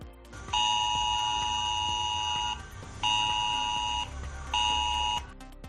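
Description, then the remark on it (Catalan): A mobile phone emergency alert tone, sent in a Civil Protection emergency drill to about 5 million mobile phones in the Barcelona metropolitan area, Catalonia, blares in three loud, sustained bursts: a long harsh electronic tone, a short gap, then two shorter blasts, with faint background noise underneath. “És un simulacre d'emergències per valorar, doncs, a quants mòbils arriba el so d'avís en cas, doncs, d'una emergència climatològica.”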